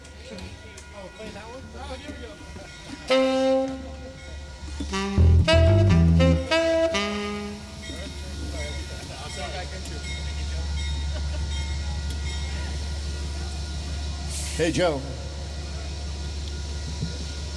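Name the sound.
train approaching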